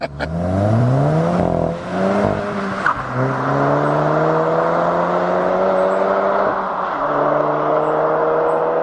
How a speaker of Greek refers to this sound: Για να απολαμβάνεις κάθε στιγμή τον ήχο. Τον ήχο. Και κατεβασμένο παράθυρο, έτσι. Και ειδικά μετά τις 3.000 στροφές, εκεί είναι. Τραγουδάνε όλη συμφωνία.